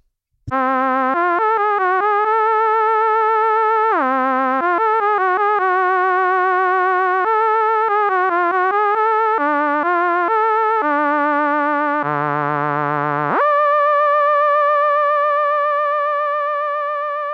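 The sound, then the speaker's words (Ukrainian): A synthesized jingle plays a bright, buzzy melody of quick stepping notes, dips into a low wobbling passage, then rises and holds one long sustained note to the end. No one speaks. “Зіграй джингл, давай, давай.”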